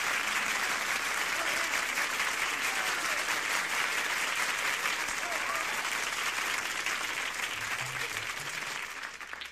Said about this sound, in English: Clap, clap, clap.